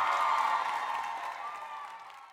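A crowd cheers and claps for a zebra's victory in a dense, continuous roar of applause that starts loud and gradually fades over a couple of seconds, with no distinct voices rising above it.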